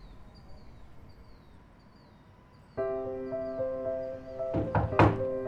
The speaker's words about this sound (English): There is someone at the door. Yes, Rexa, I know what a doorbell means.